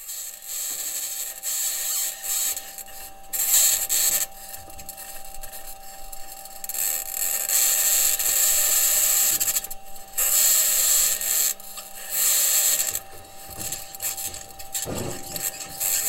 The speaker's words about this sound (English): Before we go, I want to take a listen to some of the sounds of the Mars Perseverance rover driving on the surface of Mars. It sounds a little bit like your squeaky old car. Have a listen.